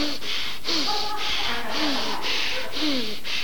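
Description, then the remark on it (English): A voice imitates the rapid, forceful fire breath breathing exercise: about seven sharp, breathy huffs at a quick, steady rhythm, fairly loud, with faint voiced tones in between. “And he was just sitting there, and towards the end of my lecture, our Pakka Brahmana was beginning to do some serious breathing exercises called the fire breath.”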